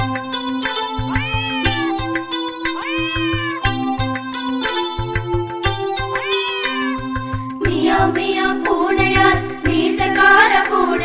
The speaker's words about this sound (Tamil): எலிகள் வேட்டை ஆடுவார் மியாவ் மியாவ் பூனையார்.